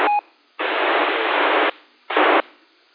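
Bursts of harsh, hissing radio static on an amateur radio repeater, a short opening burst with faint tones, then a long steady rush of noise and another shorter burst, each cutting off abruptly between quiet gaps.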